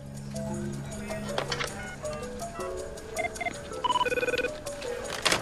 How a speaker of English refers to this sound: checks around, then calls Edgar on the phone